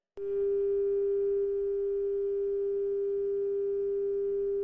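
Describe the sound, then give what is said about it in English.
A landline dial tone starts abruptly and holds steady, a single mid-pitched electronic hum with buzzy overtones that continues unbroken for several seconds, coming from a landline still in the hand of a traveler sprawled on a table. No one speaks. “Sprawled out on the table is the lone traveler, a dial tone ominously sputtering from the landline still in his hand and blood pooling around his head.”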